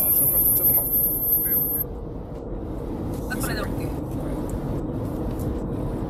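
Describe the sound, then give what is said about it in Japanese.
Steady low-frequency road rumble inside a moving car driving back from Game Market near Ichikawa, a continuous dense drone filling the cabin, with a thin high electronic whine early on and brief faint sounds mid-way. “すみません、ちょっと設定が今、ゲムマから帰ってる車内でライブしてみてますが、 はい、 ちょっと聞こえがどうでしょうかね。”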